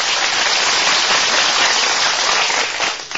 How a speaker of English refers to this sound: I must confess that I signal for the applause because looking at it pretty dispassionately, when a guy gets on the air and says, good afternoon,